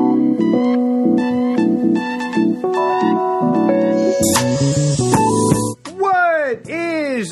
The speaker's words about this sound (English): We don't need no meows. We don't need no cat.